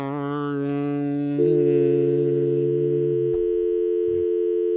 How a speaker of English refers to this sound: If you use a dial tone on cell phones. Right. But that's what I got.